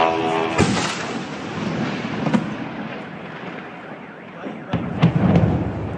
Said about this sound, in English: You can hear the buzz of the drones, the blast, the car alarms. It amounted to one of the largest attacks on the Russian capital since the Kremlin ordered the invasion of Ukraine more than 4 years ago.